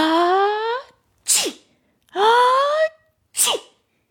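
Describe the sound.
A voice imitates a dragon's big sneeze twice in a row, caused by dandelion fluff tickling its nose, each a long rising, tonal inhale-like build followed by a sharp, breathy burst, loud with short pauses between.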